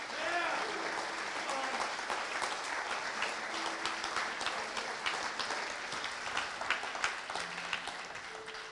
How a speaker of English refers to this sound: Can we just give a huge hand clap to those who just made that commitment? Hallelujah! Yeah.